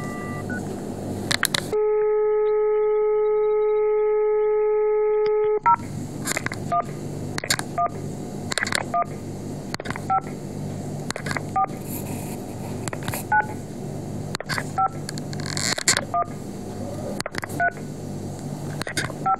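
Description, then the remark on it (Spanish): A steady dial tone hums for a few seconds, then a phone number is punched in as a quick series of short DTMF keypad beeps over faint background noise, calling another telephone, one that does not work. “Ahora vamos a dejar, vamos a llamar al otro teléfono que es el que no funciona.”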